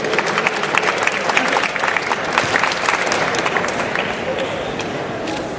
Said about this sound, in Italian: Facciamo un applauso, grazie